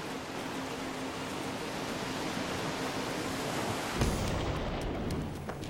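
Ocean surf breaks along the shore in a steady, loud, hissing roar that fills the whole clip, with a fresh surge of crashing water about two-thirds through. No voices.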